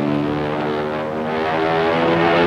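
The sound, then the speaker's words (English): A propeller plane roars as it goes into a steep dive after its pilot collapses against the controls, its loud, continuous engine drone swelling slightly toward the end, with no voices. “The plane goes into a steep dive.”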